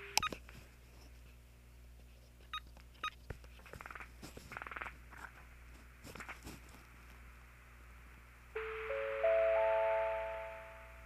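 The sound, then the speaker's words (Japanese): A run of short button clicks and keypad beeps, then a steady electronic telephone tone that rises and holds for the last few seconds, fairly loud, with no one speaking. It is a call to the Osaka District Meteorological Observatory weather information line, recorded by an IC recorder with a microphone set in the ear. “この状態でですね、電話をかけてみましょうか。”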